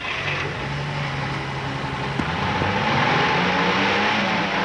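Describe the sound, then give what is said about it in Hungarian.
A car engine turns over and runs, its steady mechanical drone rising in pitch as it revs up toward the end. No one speaks. “Én majd beindítom a motort.”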